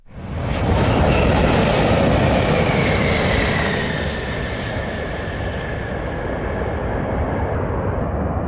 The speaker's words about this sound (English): Out here on the taxiway at Denver International Airport, we just watched the biggest passenger jet in the world land with the Rocky Mountains behind him.